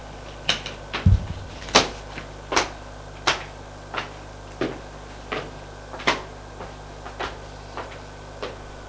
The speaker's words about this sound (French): Elle entre. Il ferme la porte.